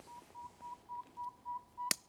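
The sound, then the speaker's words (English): A recorded saw-whet owl territorial call is played at dusk: a steady series of high, pure, whistled toots, about seven evenly spaced notes, fairly faint, with a sharp click near the end and no talking. “Their main territorial call is very much like the pygmy call, just a little higher pitched and a little purer sound.”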